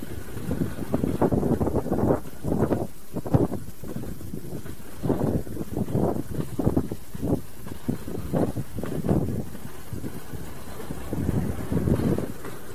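Wind buffets the microphone outdoors at night along the street behind Malden Stuff and Shop Plaza, not very cold, in steady, low rumbling gusts that swell and ease throughout, loud with no one talking.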